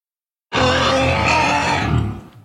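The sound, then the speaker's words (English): After a brief silence, an injured animal lets out a single loud, harsh scream, raw and strained with rough harmonics, holding for nearly two seconds before trailing off. “Another hour after that, she hears the first of the screams.”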